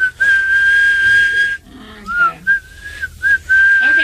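Someone whistles a tune: a long, steady held note, then a brief pause and a string of shorter notes that slide gently up and down in pitch.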